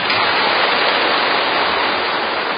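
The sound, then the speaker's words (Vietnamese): Sustained audience applause at a Vietnamese Buddhist gathering: a dense, even wash of many hands clapping together that stays loud and steady throughout, with no individual claps standing out and no voices over it. “Các vị cho một tràng pháo tay.”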